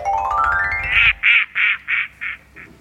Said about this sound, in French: C'est le moment du coin-coin ? C'est le coin-coin.